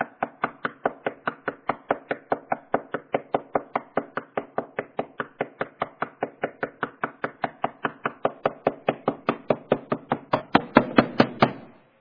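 repeated knocking

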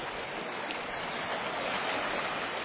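creek water flowing

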